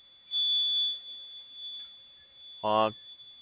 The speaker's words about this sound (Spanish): Oye, pensé que usted lo había activado, que se me activó la alarma de aquí del carro